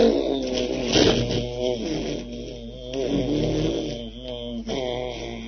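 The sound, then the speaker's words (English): A voice hums the syllable Om as a sustained, buzzing drone in imitation of a bee, in the Brahmara Japa practice, rich in overtones and wavering slightly in pitch, holding fairly steady and loud with a couple of brief breaths. “Znači pčela koja pravi ovakav zvuk.”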